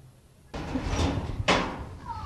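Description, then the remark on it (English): Two heavy knocks on a door at a mother's house, about a second apart, each with a broad, dull thud, over steady background noise, with no one talking. “Knock, knock.”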